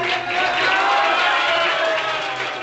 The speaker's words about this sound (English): There were cheers and shouts of banzai at party headquarters in Tokyo.